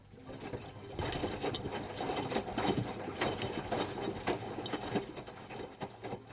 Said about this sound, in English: Here's the sound of Rachel's washing machine.